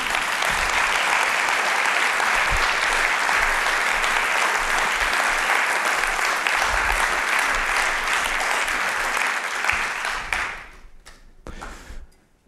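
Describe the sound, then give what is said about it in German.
A large audience applauds steadily in praise of farmers, a dense wash of many hands clapping that holds strong for about ten seconds, then quickly thins out to a few scattered claps before fading. “Das wäre ein Applaus wert.”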